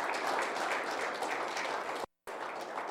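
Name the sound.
audience applause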